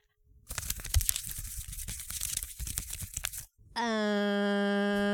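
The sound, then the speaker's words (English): Loud crinkling and rustling of paper for about three seconds, full of sharp crackles, then a brief pause and a steady, buzzy electronic tone that holds to the end. “Oh yeah, put in the little paper thing.”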